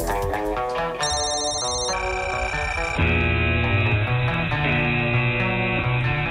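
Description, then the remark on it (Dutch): A loud electronic alarm jingle for a radio prize game plays on its own, bright synthetic tones shifting in steps every second or so over a steady, buzzy low backing. “Ja, dat is het alarm voor het spelletje dat we zo meteen gaan spelen.”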